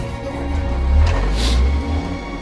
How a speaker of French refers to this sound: Quoi vous pensez quand les voitures passent comme ça?